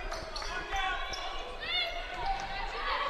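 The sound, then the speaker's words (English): A basketball dribbles left off a screen in a steady rhythm of dull thumps on a hardwood court during a women's exhibition game between Northwest and William Woods at Bearcat Arena in St. Joseph, with sneakers squeaking in sharp high chirps over a constant murmur of crowd noise. “between the circles, dribbling left off a screen.”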